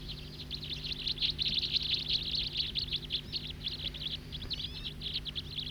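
flock of birds calling

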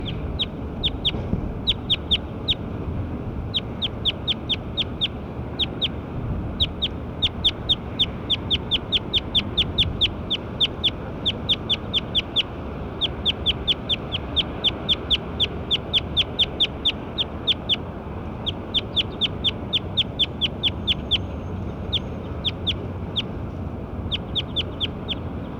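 bird calls

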